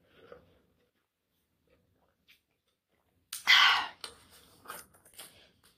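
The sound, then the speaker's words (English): After a few quiet seconds comes a loud slurping sip of water, followed by several small wet swallowing and mouth clicks, with no one talking. “I'm going to take a sip of water if y'all don't mind.”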